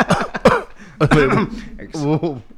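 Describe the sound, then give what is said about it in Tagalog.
A couple of sharp coughs burst out in quick succession from a person who still has a cough, followed by some throaty, voiced sounds and the person starting to speak. “May ubo pa.”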